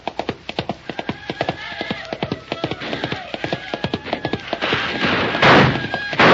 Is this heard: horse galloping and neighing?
yes